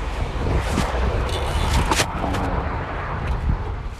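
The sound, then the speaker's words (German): A strong headwind roars and buffets steadily for the whole stretch while someone cycles toward Bad Honnef under a completely grey sky, a dense low rumble with brief gusty surges and hiss across the upper range. No one speaks. “Der Wind bläst mir wirklich die ganze Zeit entgegen, hat man ja vielleicht gerade gehört.”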